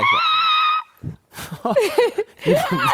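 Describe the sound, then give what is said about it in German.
A person imitates the scream of mating turtles, starting with a loud, sustained high-pitched wail of almost a second. Brief pauses follow, then several more squealing vocal bursts. “Hast du schon Schildkröten bei dem Geschlechtsverkehr? Bei Geschlechtsverkehr. Boah, krass, richtig krass. Beobachtet. Sehr laut. Die schreien auch.”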